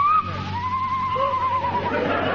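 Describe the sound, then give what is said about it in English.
A mating owl's long, wavering cry holds a steady pitch and slowly falls, with a second, fainter cry answering it from the other side partway through, over a low constant hum. “The cry of a mating owl.”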